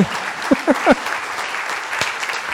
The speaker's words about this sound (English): Oh, standing applause. Wow. Thank you. Thank you.